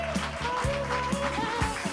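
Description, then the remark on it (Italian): A live audience in the Radio Popolare auditorium at via Olearo 5 applauds steadily for a couple of seconds during the live broadcast evening Live Pop, a dense, even wash of many hands clapping, with faint cheering or a musical tone underneath. “Benvenuti, benvenute, ciao, un applauso per farvi sentire anche da casa.”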